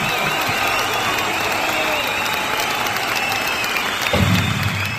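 Steady, dense applause from a crowd fills the whole stretch, loud and continuous, with a brief swell near the end and faint voices mixed underneath.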